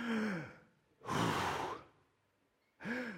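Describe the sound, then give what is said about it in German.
A person deliberately breathes out one long, heavy, breathy exhale, fairly loud, imitating divine breath, framed by short voiced vocal sounds just before and after it. “Ein ganz schweres Atmen.”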